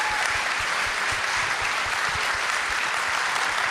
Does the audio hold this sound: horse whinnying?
no